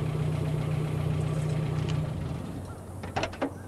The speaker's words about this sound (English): A pickup truck comes to a halt.